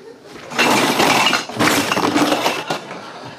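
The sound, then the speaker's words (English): A loud crash of breaking glass and debris, two dense bursts of shattering and clattering over about three seconds, as a car with a shot-out tire screeches to a halt and crashes into a building. “The car, screeching to a halt, and crashing into a nearby building.”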